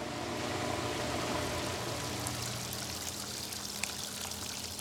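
Steady flowing water pours and trickles continuously into a backyard koi pond, like a small stream or waterfall, with soft splashy droplets on top and no voices.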